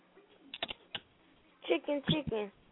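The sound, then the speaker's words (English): A handful of sharp, hard clicks on a computer keyboard tap out in quick bursts, fairly loud, followed by a voice sounding over a few more heavy keystrokes. “Why are you typing so fucking hard?”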